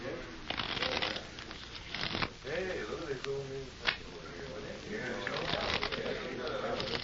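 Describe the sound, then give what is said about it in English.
A deck of playing cards is shuffled once for luck at a card game table with chips, with crisp riffling bursts and flutters spread across several seconds, while faint voices murmur in the background. “Mind if I shuffle them once? Just for luck?”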